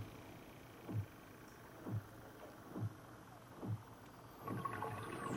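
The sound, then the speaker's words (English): Underwater seal calls: four evenly spaced, descending chirps about a second apart, followed by a longer warbling call, over a steady watery hiss. No one speaks. “And then the sounds are actually seals.”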